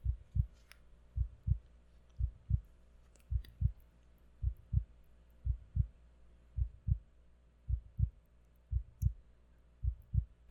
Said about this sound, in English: You hear my heart beating? See?